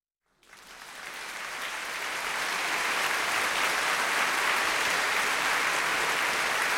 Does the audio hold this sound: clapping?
yes